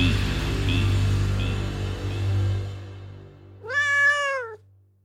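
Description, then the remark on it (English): A single drawn-out house cat meow rings out clearly, following a few seconds of low, steady hum that fades away just before the cat calls. “And the wild ancestors of your house cat.”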